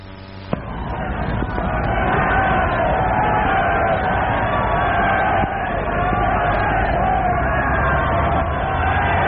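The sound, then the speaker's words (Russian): A huge crowd in the streets of Vienna cheers and shouts greeting Hitler, in a steady, dense roar that swells in at the start and holds loud and unbroken throughout, with many voices blending together. “Приветствует Гитлера, да, приветствует на всех улицах и снимает там действительно гигантские толпы.”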